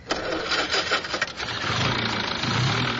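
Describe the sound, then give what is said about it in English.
A car engine that is not firing right cranks with a rapid, rough ticking for about a second, then catches and settles into a steady low idle hum. No voices are heard. “It's not firing right. I'll take a look at it. It was pinking a little this morning.”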